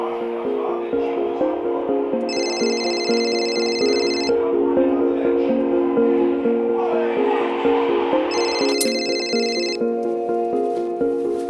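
A phone rings in two separate bursts of bright, warbling electronic tone, each lasting a second or two, over a steady humming background with a faint voice-like murmur.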